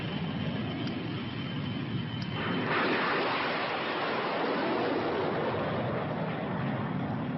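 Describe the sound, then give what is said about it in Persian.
A steady mechanical roar that abruptly swells into a louder, fuller rushing thrust a few seconds in as aircraft engines 3 and 4 ignite, then holds as a continuous blast with no voices. “آقایون آماده برای شروع. احتراق 3 و 4.”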